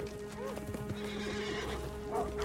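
Several horses gallop close by, hooves pounding in a rapid, irregular beat, while sharp neighs and whinnies rise over a steady low rumble.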